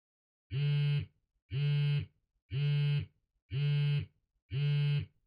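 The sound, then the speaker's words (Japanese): A phone rings for an incoming call from a girlfriend: five identical buzzy, mid-pitched tone bursts, each about half a second, repeating at a steady once-per-second rhythm with short silences between. No one speaks. “誰から？あら、彼女から？だったら出てあげた方がいいんじゃない？お風呂は電話が終わってからにしましょう。”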